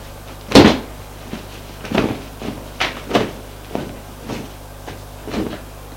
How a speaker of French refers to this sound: On frappe à la porte.